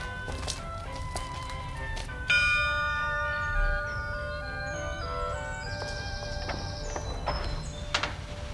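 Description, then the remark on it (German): A doorbell chimes once at an elderly lady's front door on a spring afternoon in a Die drei ??? (Three Investigators) story, with a bright, ringing tone that slowly fades, followed by faint clicks and rattling near the end like the door being opened, over a low background hum. “Sie nannten sich die drei Fragezeichen und klingelten an einem frühlingshaften Nachmittag an der Tür einer älteren Dame, die dringend ihre Hilfe benötigte.”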